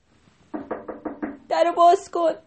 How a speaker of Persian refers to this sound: اونا رفتن تا رسیدن به خونه برادرشون خوک سوم. در زدن.